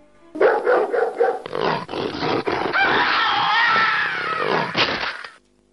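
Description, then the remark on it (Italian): A black dog barks ferociously: four quick, harsh barks in a row, then a long stretch of loud, rough snarling and growling that ends with one last bark. “Come quella girò all'angolo, il diavolaccio nero si mise ad abbaiare, con quella vociaccia roca e feroce che avrebbe fatto morire di paura anche un vigile.”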